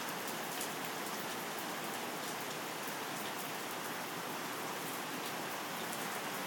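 rain falling outside

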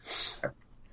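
sneeze

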